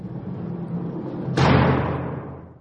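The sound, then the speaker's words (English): Over a steady low rumble, heavy theater doors shut with a single loud thud about halfway through, as ticket holders are inside for an opening ceremony; the boom lingers and fades slowly afterward. No one speaks. “I've just gotten inside, and not a moment too soon as the doors are closing.”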